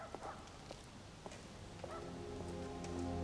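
Steady rain patters on wet street pavement, with scattered drips and a few soft footstep-like knocks as a young man walks away over the rain-wet paving, while a low hum grows gradually louder underneath.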